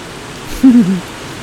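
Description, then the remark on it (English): A steady wash of heavy rain hisses evenly throughout, with a brief low vocal sound rising over it near the middle. “Oh, the rains are pouring down for us.”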